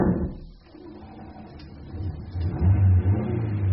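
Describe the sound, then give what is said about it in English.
A car engine, with a man riding in the boot, rumbles low and steady, then revs up louder near the end with a deep, rising growl as the car is to be driven to a nearby scrapyard; no voices are heard. “Oh, yes, evidently what's going to happen is that the car is going to be driven to a nearby scrapyard”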